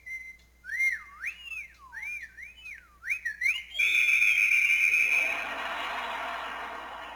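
human whistling

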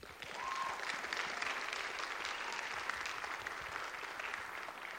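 audience applause

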